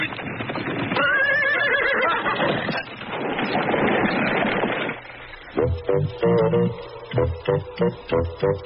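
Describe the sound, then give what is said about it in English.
A horse, told to go, lets out a loud, drawn-out whinny, then its hooves clatter in a quick, steady rhythm as it gallops away, the hoofbeats carrying on to the end. “Now go, horse. Go.”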